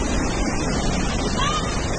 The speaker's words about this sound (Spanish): Letur, en Albacete, 900 habitantes. Un torrente de agua golpeó las calles del pueblo a traición y provocó el caos en los vecinos. Escuchen.